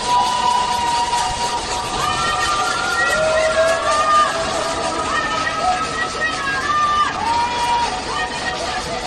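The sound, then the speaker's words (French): A dense, steady din of many pots being banged at once by residents of Shanghai under lockdown, protesting in anger and despair: a continuous metallic clatter with ringing, wavering tones, mixed with a murmur of voices throughout. “À Shanghai, on entend des habitants qui tapent sur des casseroles pour crier leur colère et leur désespoir.”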